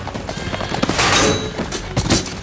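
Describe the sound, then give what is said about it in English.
Galloping hooves pound, then a heavy thud and crash as King Arthur is knocked from his horse, followed by another dull impact. No one speaks. “And when they grow too stubborn, they need to be knocked off their horse. Quite literally.”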